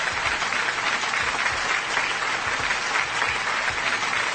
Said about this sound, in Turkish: Alkış